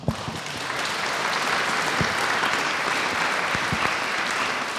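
Steady applause from an audience at a Krakowski Salon Poezji poetry meeting in Łódź, a dense wash of many hands clapping at an even, sustained loudness for about five seconds, with no voices standing out.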